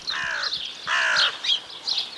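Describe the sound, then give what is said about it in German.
Crows caw harshly: two long, raspy calls followed by a few shorter, scratchier ones, with no talking in the background. “Die Krähen schreien und ziehen schweren Fuchs zur Stadt.”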